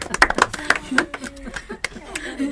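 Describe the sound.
An audience breaks into applause: a dense, irregular patter of many hands clapping at once, fairly loud and steady, with some voices and light laughter mixed in underneath.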